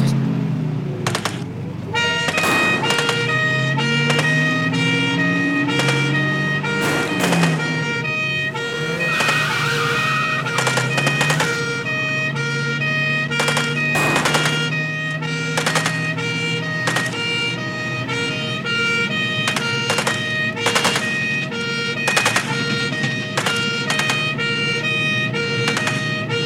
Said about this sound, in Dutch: De politieman scheurt weg met loeiende sirene.